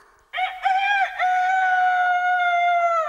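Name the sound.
rooster crowing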